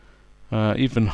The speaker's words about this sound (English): Even humming, I suppose, it's not really singing, but it's making a melodious noise with our mouth. This sort of humming.